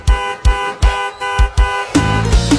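A car horn honks in front of a gate in a quick, steady series of five short loud blasts, then blares in a longer continuous stretch, with no voices.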